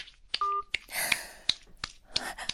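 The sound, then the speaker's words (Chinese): A phone call ends with a short electronic beep amid a flurry of sharp clicks and clattering handling noises, fairly quiet, with no voices. “喂，老公啊，那要不就先……没什么事，快挂掉吧。”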